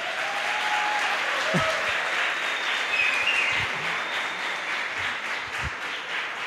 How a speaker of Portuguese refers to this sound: Uma salva de palmas para esse homem aí.